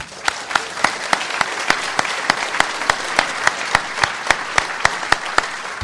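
Audience applause for the sponsor Aruba Networks, an HP company: a steady wash of many hands clapping, with sharper claps standing out in a fairly even rhythm. It holds a constant moderate level throughout, with no voices.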